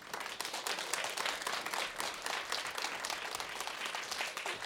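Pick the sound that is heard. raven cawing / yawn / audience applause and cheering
audience applause and cheering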